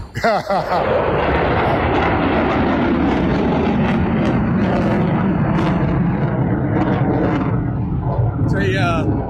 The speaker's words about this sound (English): I can't tell what jet is it. Is it an F-18? I can't tell. But it went like totally vertical right in front of us, making a big loop, and now he's coming back down.